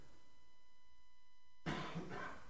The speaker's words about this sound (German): Ein Husten.